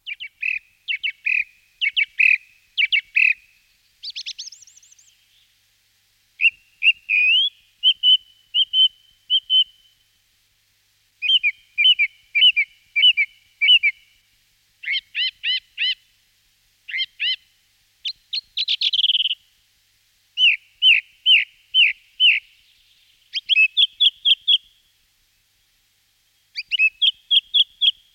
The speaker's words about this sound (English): The song thrush is loud and flamboyant and loves to repeat each phrase two or three times.